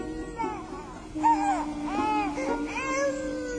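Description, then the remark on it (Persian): An infant cries in repeated wailing bursts, moderately loud, with rising and falling pitch over a steady low background hum. “شاید این گریه و نارامی دلیل دیگری دارد.”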